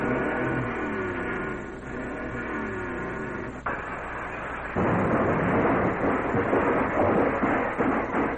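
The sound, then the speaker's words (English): A car engine revs loudly at Rockefeller Plaza, recorded with a microphone held down by the hood, its roar climbing in bursts and surging even louder midway through, with no voices over the steady mechanical rumble. “Let's give the motor a real good turnover.”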